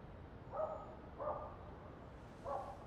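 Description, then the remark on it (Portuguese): A dog barks three times, two quick woofs then a pause before a third, each short and mid-pitched, fairly soft above a steady background hiss. No one speaks. “Ouvi os latidos e senti um cheiro de gás.”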